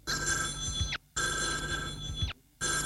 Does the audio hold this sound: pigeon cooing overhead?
no